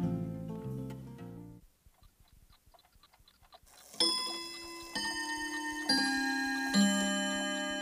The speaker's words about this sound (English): Isn't that a beautiful sound? Yes, it is. It's not a common sound. Sadly, it isn't. People don't have clocks anymore.